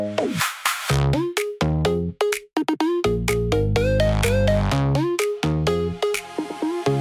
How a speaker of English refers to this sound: Phone is ringing. Yeah, I already know who it is.